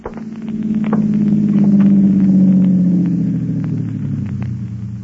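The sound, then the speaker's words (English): A car engine drones steadily as the vehicle approaches along a narrow, dusty roadway leading up to a newly erected, almost completed dam, its low rumble swelling to a peak midway and then easing slightly, with faint scattered ticks and crackles over it. No one speaks. “dusty roadway leading up to the newly erected, almost completed dam. He had no way of knowing, of course, that because of that car”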